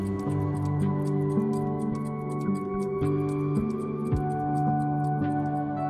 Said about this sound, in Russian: Слышно, как тикают часы.